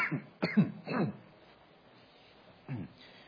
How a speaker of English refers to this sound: Occasionally, allergies fill up a bit in my lungs and have to cough it out there. Sorry.